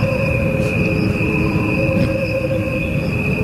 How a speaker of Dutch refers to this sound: Crickets have a faster lifespan than humans do. Their sounds are slowed down to the equivalent of a human lifespan. What you are hearing are the crickets only. No instruments or voices are added.